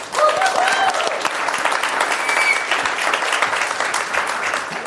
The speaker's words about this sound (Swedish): Tack …, husbandet. En applåd för honom.